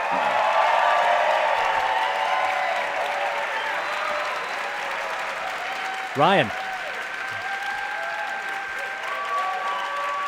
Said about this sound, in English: lots of applause. Can you hear it coming through the mic there? I can hear it.